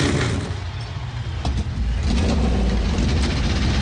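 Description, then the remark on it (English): A loud, dense roar of 37 NASCAR Cup Series stock car engines firing up and revving together on pit road at Kansas Speedway before the Hollywood Casino 400, a thick continuous rumble that swells and surges without pause, with no voices over it. “37 NASCAR Cup Series machines coming alive from the pit road.”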